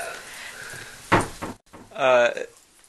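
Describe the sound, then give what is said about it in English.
A closet door in a children's bedroom swings shut by itself, with no draft in the house, with a single solid knock, and a voice speaks briefly a moment afterward. “the children were standing in the children's bedroom, and the closet door closes randomly”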